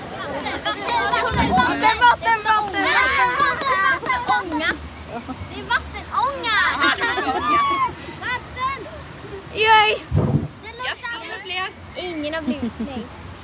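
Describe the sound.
On the Colorado rapids boat ride at Liseberg amusement park, excited children's voices chatter and call out over steady rushing water, with two loud bursts of splashing surging through about a second in and again near the end.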